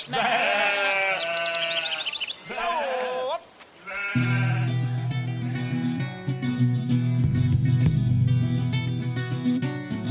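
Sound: sheep bleating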